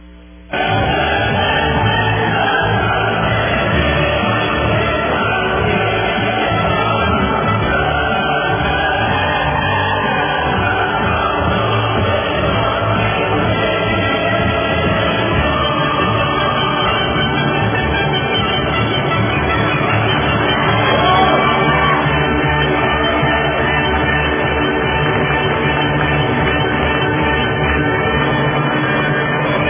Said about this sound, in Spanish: Díganme ustedes si no son palabras sabias y que se merece Angela Merkel pues el himno, la alegría del maestro Beethoven y por supuesto los aplausos. Ahí están.